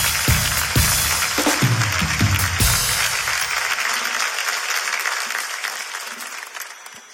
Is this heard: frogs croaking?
no